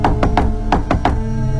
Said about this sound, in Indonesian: Dengan nafas ngos-ngosan, aku mengetuk pintu kamarnya dengan keras.